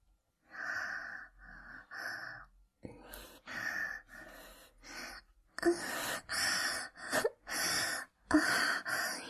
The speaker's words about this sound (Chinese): 现在我就假装做爱给你看吧。你可以听我的喘息声